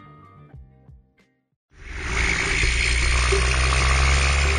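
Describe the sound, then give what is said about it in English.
Logging trucks rumble, heard underwater in a river: after a short tonal passage and a brief silence, a loud, steady low engine drone swells in and holds, thick with vibrating rumble and a broad hiss. “The trundle of logging trucks vibrates through the water.”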